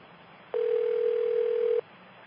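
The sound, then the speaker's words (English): A steady electronic telephone tone, heard as a call is transferred to another phone, holds at one pitch for just over a second, clear and fairly loud over faint line hiss, then cuts off abruptly. No one speaks. “No, I'm going to transfer the call to another phone.”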